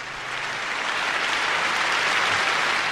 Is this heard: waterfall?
no